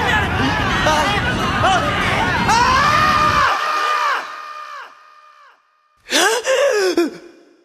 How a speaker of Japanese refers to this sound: あと怒りの群衆にケン選手もみくちゃにされてます。当然です、優勝を逃したのです。